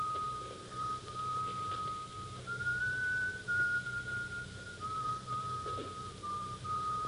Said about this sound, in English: Sure enough, a man in a wide-brimmed black hat got off and started up the street from the station, whistling the funeral dirge.